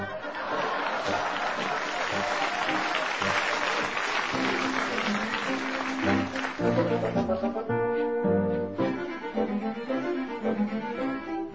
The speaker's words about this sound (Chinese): 小丑看到说话趾高气扬的小猫，感到非常的惊讶，但是观众们呢却鼓掌叫好。